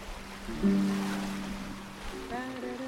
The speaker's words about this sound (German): Ich liege in der Sonne und wiege mich im Takt des Bootes in den Wellen. Die Segel wehen leicht in einer gleichmäßigen Brise, die mich vergessen lässt, dass es über 30 Grad warm ist.